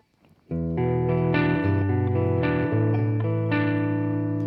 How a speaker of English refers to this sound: And to feel comfortable... in this shouty style of singing, yes, you need reverb. Very good. So, let's try it with that reverb.